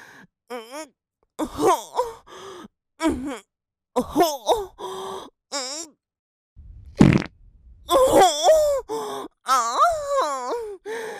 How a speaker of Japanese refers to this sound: またおならが出てきちゃった。お尻、こうやって振るたびに臭いの出る。腰を動かしてるからお腹が刺激されたのね。